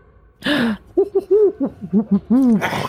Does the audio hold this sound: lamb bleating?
no